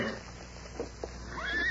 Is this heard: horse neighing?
yes